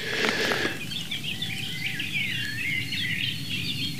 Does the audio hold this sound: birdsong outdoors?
yes